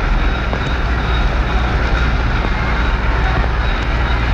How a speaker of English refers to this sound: Here she comes! Yes, the train is on its way into Union Station on Asylum Street. Yes, the Springfield-Hartford train is finally arriving.